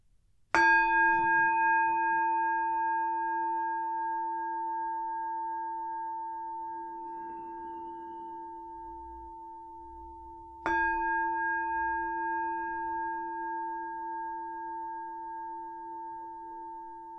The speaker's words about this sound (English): So if you want to take a moment to make yourself comfortable, I'll start with three sounds of the bell, and we'll do the usual settling in introduction.